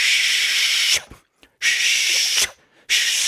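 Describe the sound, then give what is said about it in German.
A voice makes long, steady "shhh" hissing sounds as a diaphragm exercise, the locomotive exercise imitating a steam engine slowly leaving its shed: two sustained bursts with a short pause between, then a third beginning. The hiss is bright, breathy and fairly loud, with no other talk. “Dasselbe kannst du auch mit dem Esch machen, also mit dem SCH machen.”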